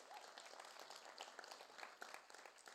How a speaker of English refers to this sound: He did an amazing job. I'll give him a round of applause. He's awesome.